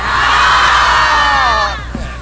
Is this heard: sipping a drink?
no